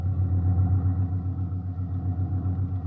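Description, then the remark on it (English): An old ambulance, a jalopy, drives along a road toward Madrid, its engine a steady low rumble with a rough, throbbing hum and no voices. “This ambulance makes pretty good time for a jalopy.”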